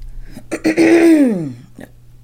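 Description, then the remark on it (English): Someone coughs and chokes on a drink, with a couple of quick rough bursts leading into a strained, gagging groan that slides downward in pitch before fading out. “We coughing, we choking, we got mucus.”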